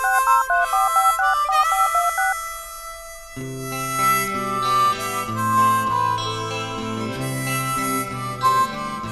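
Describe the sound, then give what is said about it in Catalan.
A voicemail message tone: a bright electronic phone-style melody of quick repeated notes plays alone, then fuller synth music with a steady bass line takes over, loud, with no voices. “el teu missatge després del senyal.”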